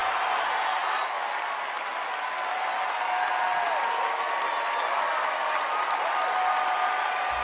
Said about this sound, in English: And then I love how they stand and they cheer.